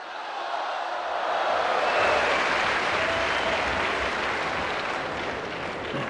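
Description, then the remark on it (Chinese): A crowd bursts into sustained applause welcoming the performers at a Chinese crosstalk (xiangsheng) show, 'Bai Shou Tu', performed by He Yunwei and Li Jing: a dense wash of clapping that swells in the first second, holds steady and loud, then eases slightly toward the end, with no voices standing out. “是是是， 我认为这个掌声啊 啊， 都是给您鼓的呀。”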